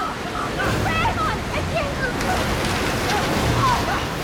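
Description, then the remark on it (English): After a faucet is opened, water gushes loudly and steadily from a large pipe into a tank, flooding it, a continuous roaring rush with faint voices under it. “Dylan opens a faucet and water spews from a large pipe into the tank.”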